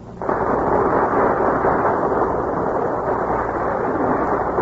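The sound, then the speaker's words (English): A large studio audience bursts into applause for the stars Gary Cooper, Joan Leslie and Walter Brennan as they take their places before the Gulf microphone, and keeps clapping at a steady, dense roar for several seconds, with no voices over it. “Burst of applause is for our stars who are taking their places before the Gulf microphone.”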